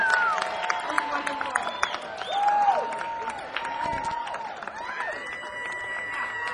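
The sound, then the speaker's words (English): A crowd applauds performing musicians with steady, scattered clapping, punctuated by high whistles and cheering voices rising and falling throughout. “Another big round of applause for these guys.”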